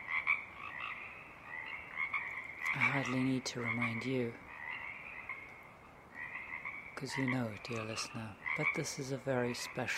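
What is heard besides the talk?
frog chorus croaking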